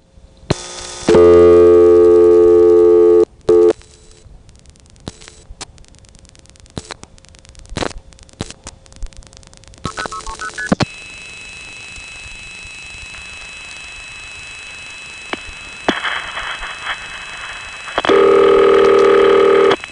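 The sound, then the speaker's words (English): Telephone dialing to reach the international operator, the digits dialed fast while multi-frequency (MF) tones are sending: bursts of MF tones, short beeps stepping in quick sequence between clicks, then a steady line hiss and a loud sustained tone at the end, with no talking. “In fact, I'll have to dial while it is MFing out so you won't hear all the tones.”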